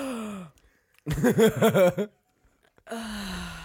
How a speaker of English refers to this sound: Well, I'm having difficulty breathing through my nose, so let me test the air with my mouth.